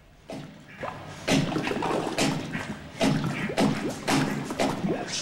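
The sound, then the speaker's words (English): A plunger works a toilet bowl in a prison cell in a series of wet, sucking thrusts, each a loud splashy slosh and thud, repeating at an irregular, vigorous pace with gurgling water between strokes. “Colin's using a plunger in a toilet bowl.”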